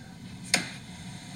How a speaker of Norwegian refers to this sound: dette lyden av meg som smekker igjen PC-en etter å ha rettet for harde livet og satt 159 karakterer for ungdomsskoleelevene mine. Det lyden av å lukke PC-en for ferie!